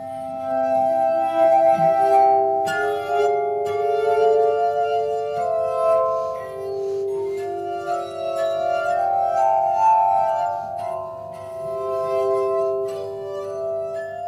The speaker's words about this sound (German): Dreimal dasselbe Stück, das Adagio für die Glasharmonika von Wolfgang Amadeus Mozart, mit den drei wichtigsten Glasinstrumenten. Zuerst eine Aufnahme von 1952 mit Bruno Hoffmann auf handelsüblichen, mit Wasser gefüllten Gläsern.